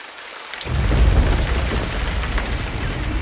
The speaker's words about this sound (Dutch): Voel je dat? Oh jee, een tropische stortbui. Laten we maar snel beschutting zoeken onder die grote bladeren hier.